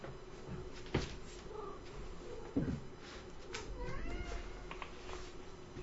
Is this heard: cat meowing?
yes